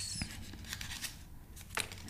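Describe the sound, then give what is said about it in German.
Paper slips for a raffle rustle and crinkle as a left hand rummages through them to draw the winner, with a few sharper crackles standing out from the soft, steady shuffling. “Ihr hört es rascheln. Ihr hört es knistern.”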